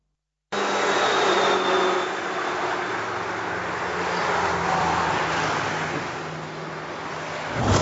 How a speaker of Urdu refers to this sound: دیکھا آپ نے کس اسپیڈ سے یہ کار نکلی سگنل توڑتے ہوئے، اور بظاہر تو اگر وہ سگنل توڑ کر پہلی گاڑی سے ٹکراتی، پہلی گاڑی سے بھی بچ گئی، دوسرے سے بھی بچ گئی اور نکل گئی.